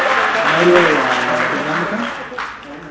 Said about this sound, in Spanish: Denle un fuerte aplauso, es que está muy callado, hermano.